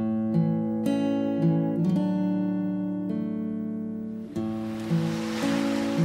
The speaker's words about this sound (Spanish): Dos mujeres, madre e hija, caminaban por la playa. El viento del mar, el rumor de las olas, la arena tibia bajo sus pies descalzos.